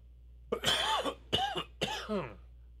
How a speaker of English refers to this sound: You don't have to cough about it. Yeah. You don't got to get all cough about it.